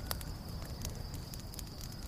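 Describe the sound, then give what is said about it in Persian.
An outdoor campfire outside a cabin burns steadily with a low rumbling roar, sharp pops and crackles bursting out every fraction of a second, fairly quiet, with no voices. “سیاوش بیرون کلبه آتیش روشن کرده”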